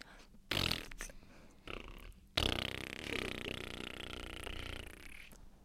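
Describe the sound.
A person imitates a plane taking off with their mouth: a few short breathy bursts, then a loud, sustained roaring hiss with a faint whine that holds steady for about three seconds.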